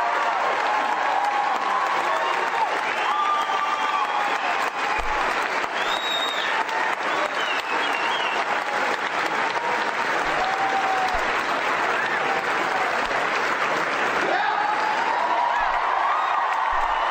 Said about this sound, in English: Now they're all standing up and applauding, but they don't understand.